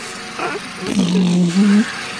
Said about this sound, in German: Das ist so ein elektrischer. Und der Witz ist wirklich, ich habe es gefunden auf YouTube, Rasenmäher, Einschlafhilfe für Baby.